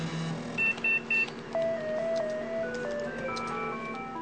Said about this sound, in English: Kompu has immediately downloaded the melody that Jan was whistling from the internet.